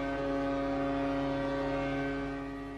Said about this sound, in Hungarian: A nép 3 perces néma csenddel emlékezett Kim Jong-ilre, majd országszerte megszólaltak a hajók és a mozdonyok hangkürtjei.